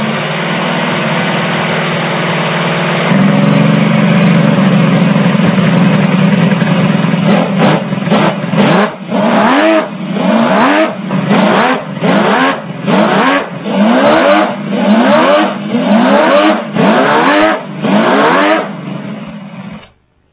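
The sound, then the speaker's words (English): A handmade, working scaled-down 12-cylinder Ferrari engine, fuel injected with dry sump, fitted under the body of a handmade model, idles with a steady rumble, then is blipped repeatedly in quick revs that rise and fall, loud, with no talking. “The main reason why this took 15 years to make is that under the body, you'll find a scaled-down version of the original engine, which actually works. It makes the Ferrari music.”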